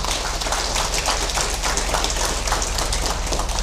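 crowd, loud audience applause

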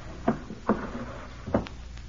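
household object, bureau drawer being opened

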